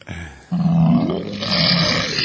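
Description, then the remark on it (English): A monstrous alien creature roar: one loud, sustained bellow that starts as a deep, throaty growl and turns into a harsher, raspy screech for nearly two seconds, with no talking. “That was supposed to be an alien.”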